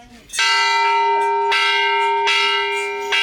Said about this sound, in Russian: А еще ребятам разрешили позвонить в колокол.